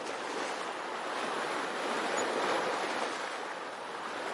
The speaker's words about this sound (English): It was a nice sunny day with some fluffy clouds, but the winds were coming out of the north about 15 miles per hour, and there were white caps on the wave.